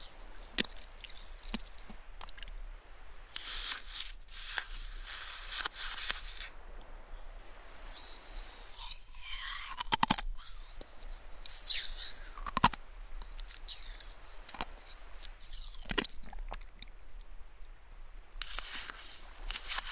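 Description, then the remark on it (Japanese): Someone eats shaved ice from a cup: repeated soft, wet crunching and squishing bites with scraping spoon sounds, irregular, with no talking. “ね、ゆっくり聞いて、私のかき氷の音。”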